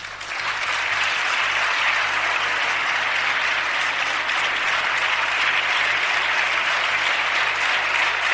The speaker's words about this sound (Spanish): Y por eso es tan bobo y queda tan mal el aplauso de los parlamentarios a la aprobación de la ley de eutanasia, como bien decía esta semana nuestro Carlos Herrera.